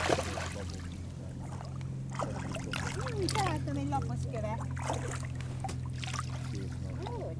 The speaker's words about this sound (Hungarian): ez a hatalmas a hajó, ami jön, ez micsoda? Egy nagy tolóhajó, két bárka. Ez most nincs is tele, igaz? Ez nincs tele. Hát van rajta, de nincs úgy megpakolva, mint a másik.